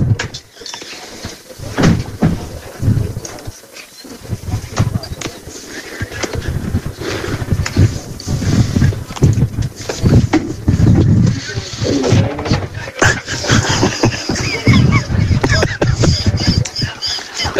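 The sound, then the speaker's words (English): Wooden steps creak and groan repeatedly as someone walks over them, the squeaks loud over a steady background hum. “Creaky steps back there.”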